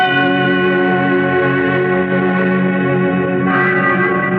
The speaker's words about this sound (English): What's that? What's what, my dear? Those bells. My church bells. Why are they ringing? Because I asked the minister to. I always wanted the bells to ring at my wedding.